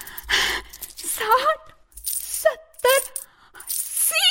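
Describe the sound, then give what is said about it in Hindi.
Coins clink and jingle in several bright bursts, with metallic ringing tones trailing after each handful as they are counted out at irregular intervals: two handfuls of coins a king gives Shravan Kumar, who counts them. “श्रवण कुमार फिर से जाता है, अपनी झोली फैलाता है और राजा उसे 2 मुट्ठी भर के और सिक्के देते हैं।”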